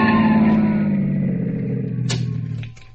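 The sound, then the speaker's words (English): On a highway in Dedham near the Westwood town line, a pursuing police car forces a recklessly driven car carrying four youths over to the curb: an engine rumbles loudly and winds down as the vehicle slows to a halt, followed by a couple of sharp clunks before the sound fades. “Finally, a pursuing police car forces them over to the curb.”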